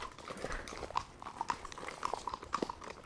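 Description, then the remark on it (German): Horse hooves clip-clop at a steady walking pace as a horse walks uphill past a moor lake on a cool day, moderately loud, with a quiet outdoor rustle underneath and no talking. “Ich bin die meiste Zeit damit beschäftigt, mein Pferd Picasso davon abzuhalten, sich ein paar grüne Blätter irgendwo abzuzupfen.”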